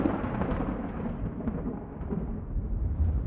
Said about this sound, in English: The rain had begun to ease off, but the thunder and lightning were still raising a fuss.